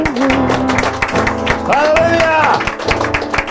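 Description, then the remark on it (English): A crowd claps hands in a steady, fairly quick rhythm during a church praise and worship service, the sharp claps blending with voices and sustained sung or played tones throughout. “Let's give a hand clap of praise and worship tonight.”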